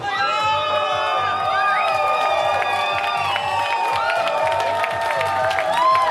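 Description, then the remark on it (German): A large crowd of Reform Party members cheers loudly and continuously at the party's election night gathering in the Radisson hotel in central Tallinn, Estonia, after 11 p.m. Many voices shout and whoop together over a steady roar, with a rhythmic pulse of chanting for party leader and Prime Minister Kaja Kallas. “Im noblen Hotel Radisson im Zentrum Tallinns hatten Mitglieder der regierenden liberalen Reformpartei ungeduldig auf ihre Smartphones geblickt, als schließlich Jubel aufbrandete.”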